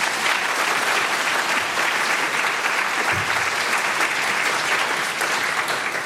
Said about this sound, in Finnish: Kiitokset meidän panelisteille. Annetaan aplodit panelisteille.